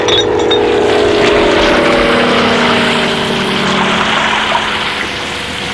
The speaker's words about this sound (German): Passt auf! Das Löschflugzeug wirft Wasserbomben!